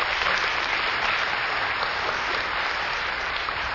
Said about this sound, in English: It was several weeks ago. He was baptized over here. And he's been hydrated because he has shed all those things and has received Christ. Amen. That's worthy of some applause.